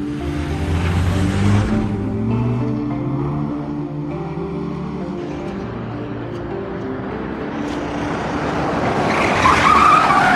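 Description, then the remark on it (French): A car engine revs loudly as tires screech and skid, the vehicle pulling away with a sustained rumbling roar that rises again near the end with high-pitched squealing. “On y va, je vais chercher la voiture.”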